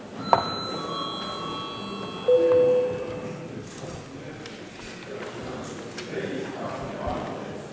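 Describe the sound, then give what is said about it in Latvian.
A parliament chamber bell, called for by the chair after a vote and before deputies' registration, rings out with a sharp metallic strike and ringing overtones, followed by a short steady tone, while a low murmur of many voices continues underneath. “Lūdzu, zvanu.”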